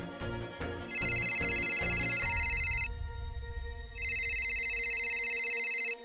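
A phone rings twice with a call from a local TV reporter asking for an interview, each loud electronic trill lasting about two seconds with a short pause between, over a quiet low musical backdrop.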